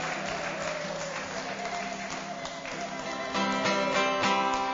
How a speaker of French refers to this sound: Merci de l'applaudir très très très fort.